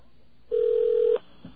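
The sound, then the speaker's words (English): A telephone dial tone heard before dialing 211, a steady, even mid-pitched hum lasting under a second, then cutting off abruptly, followed by a faint brief blip. No spoken voices. “Okay, we got a dial tone there? Dialing 211.”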